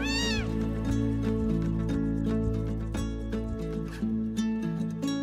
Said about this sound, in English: The family cat, startled by the commotion, jumped out of the way just in time.